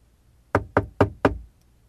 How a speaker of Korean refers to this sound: 나는 문을 당겼네. 안으로 걸려 있었네. 노크를 했네. 응답이 없었네.